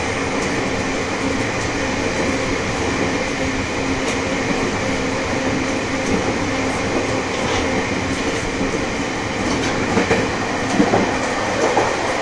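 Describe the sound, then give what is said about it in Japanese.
The Super Hatsukari No. 12 express train in Japan, bound for Morioka with its next stop at Misawa, rumbles steadily along the rails, a dense, continuous roar with faint rhythmic clatter and a few brief metallic accents near the end, no voices present. “ご乗車ありがとうございます。11時3分発のスーパーハツカリ12号盛岡行きです。”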